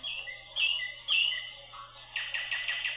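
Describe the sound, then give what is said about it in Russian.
A nightingale sings alone in clear, bright phrases, with sweet whistled notes early on, then a rapid pulsing trill toward the end, moderately loud over a faint low hum. “И розу, и соловья.”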